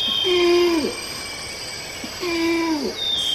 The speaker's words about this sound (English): And this one of orangutans calling in a Sumatran rainforest.